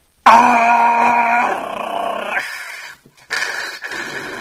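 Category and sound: human body sound, person screaming in pain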